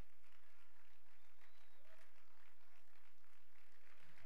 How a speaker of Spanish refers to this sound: En esta tarde alguien diga gloria a Dios. Alguien levántese y déle un aplauso al Señor Jesucristo.